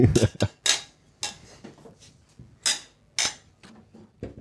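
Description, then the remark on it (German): Glasses clink together in a toast among friends at a regulars' table, a series of bright, sharp chimes in uneven succession, with several quick taps early on and a few louder clinks later, amid faint background chatter. “So, wir müssen uns ein bisschen klingen lassen, das ist gut für die Aufnahme.”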